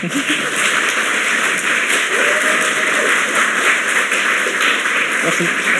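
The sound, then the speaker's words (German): Steady audience applause at the close of the GPN 16 event fills the whole stretch, a loud, dense patter of many hands clapping at once without any clear beat, with no break and no talking over it. “Applaus, Applaus.”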